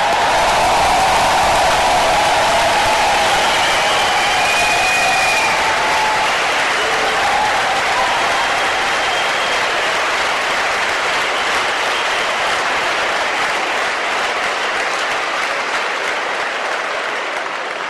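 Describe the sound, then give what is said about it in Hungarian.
Sustained applause from a large crowd at a gathering of university students, given for the high school students attending, a dense, loud wash of clapping that holds steady for many seconds before gradually thinning toward the end. “Ennek szellemében köszöntöm és kérek egy nagy tapsot az itt megjelent középiskolás diákok számára.”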